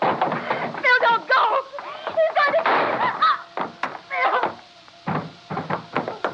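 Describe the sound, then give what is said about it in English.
A door opens with a few knocking, thudding clunks, as voices exclaim over the first half and the handling noises continue in short bursts afterward. “Don't open that door.”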